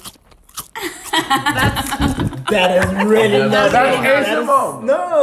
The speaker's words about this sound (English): I've literally seen ASMR videos where people just chew food. But they do it well.